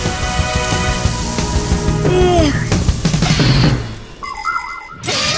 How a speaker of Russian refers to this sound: Огнетушитель доставай!